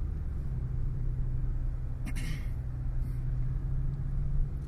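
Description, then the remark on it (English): A steady, low engine rumble drones throughout as a car drives home from work, with a constant hum in the bass and a brief brighter rattle or click around two seconds in. “As you may be able to tell from any particular engine noises or wind blowing or any future turn signals you might hear, this is a car cast.”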